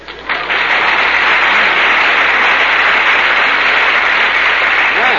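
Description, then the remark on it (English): Loud, sustained audience applause following the recitation of an Easter poem starts abruptly and holds steady as a dense wash of clapping for several seconds, with no voices over it. “Well, you got a nice hand there, Mary, but you asked for it.”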